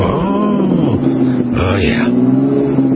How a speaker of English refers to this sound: Somebody's revving it up. They're making the neighbors mad.